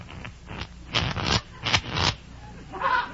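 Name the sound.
playing cards being shuffled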